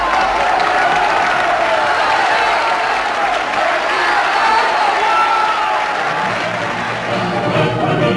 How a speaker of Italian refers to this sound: Quando alle 8 di sera Verdi fa la sua apparizione in teatro, c'è una grande ovazione.